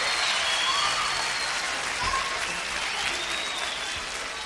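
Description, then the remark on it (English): Steady, dense applause from an audience for an orchestra, a continuous wash of many hands clapping at an even loudness throughout, with a few faint whistles or cheers riding on top. “We'd also like to have you give a fine round of applause for this fine orchestra, ladies.”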